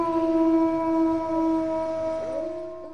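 Several wolves howl together in long, sustained, overlapping tones, one voice sliding and wavering near the end, steady and fairly loud throughout with no talking.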